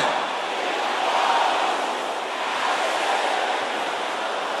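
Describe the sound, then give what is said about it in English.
An audience of men shouts a prayer together, chasing every infirmity out of their bodies by the power in the blood of Jesus. Their many voices merge into a loud, steady roar with no separate words standing out, holding for nearly five seconds. “Can I hear the brothers shouting the same thing?”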